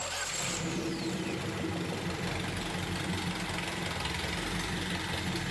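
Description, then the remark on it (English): A steady low-speed engine run, a dense continuous mechanical churn with a faint rhythmic knock and wet splashing texture as the crankshaft picks up motor oil and splashes it all around the engine block, fairly loud, with no talking. “Okay, so at such a low engine speed, we're witnessing the simple process of the crankshaft picking up the oil and distributing it all around the block.”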